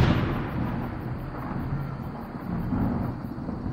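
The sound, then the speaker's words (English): A deep, rolling thunder rumble from a lightning strike, loud, sustaining heavy low-end roar for several seconds without a distinct sharp crack, with no voices present. “They lifted hands to the sky, and lightning struck.”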